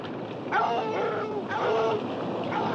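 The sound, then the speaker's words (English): Two dogs bark in two short, fairly loud bursts about a second apart, set against a steady wash of background noise with no talking, as they are led through the water while the tide comes in. “As the tide comes in, Frost leads two dogs through the water, his weapon slung over his back.”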